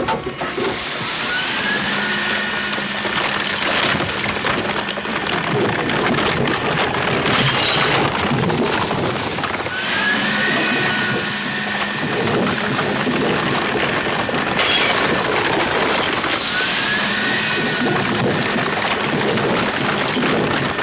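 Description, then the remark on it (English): A car being crushed in a crusher, a sound effect for the film Goldfinger: loud, continuous grinding and crunching of metal with a low mechanical drone and occasional high squeals, surging in roughly three repeating waves, with no voices. “You couldn't have said it more accurately, because my pride in Goldfinger is the crushing oh, yeah. of the car.”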